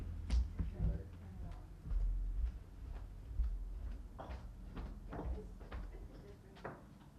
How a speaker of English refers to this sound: Okay. I'm going to close that door.